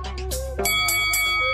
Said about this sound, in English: Ring the bell.